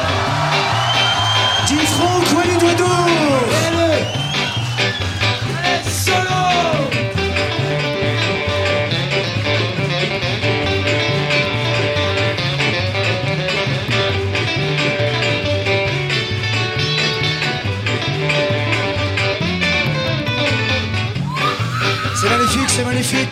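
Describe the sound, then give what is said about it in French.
A loud show audience, urged to make noise, cheers, whoops and shouts continuously over pulsing music with a steady bass rhythm as a performer is introduced, the noise staying dense and energetic for the whole stretch. “Mesdames, surtout mesdames, vous aussi messieurs, avec tout ce que vous avez pour faire le bruit, pour le plus beau d'entre nous, monsieur Dominique François Dimitri de Chien.”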